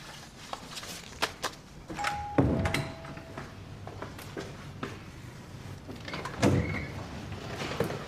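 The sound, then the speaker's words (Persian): A door opens with a clunk and a scrape, followed by a second heavier thud a few seconds later, among scattered clicks and knocks. There is no speech. “تو نمیخواد نگران باشی، در باز کن بیاد تو.”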